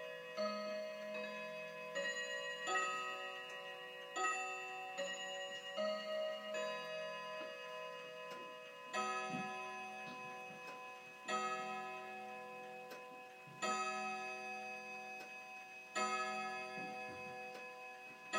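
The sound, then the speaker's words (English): A clock chimes a tuneful sequence of ringing bell tones, with clicking ticks between the strikes; the sound is clear and steady, and nobody talks. “Love this clock. But I don't know why it clicks like that in between the chimes.”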